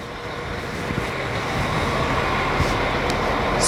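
vehicle, train arriving at station

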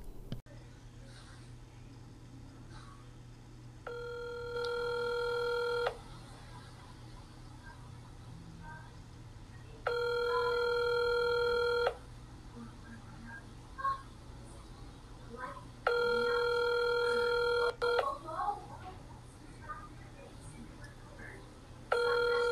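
signal or alarm, telephone ringing unanswered

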